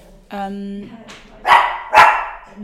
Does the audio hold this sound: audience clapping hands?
no